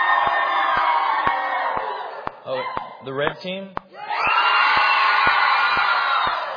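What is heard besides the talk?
crowd cheering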